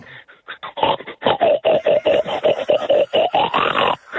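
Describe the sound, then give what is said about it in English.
A person imitates a pig, making a fast, steady run of loud snorting oinks that lasts about four seconds with barely a pause. “Do a pig”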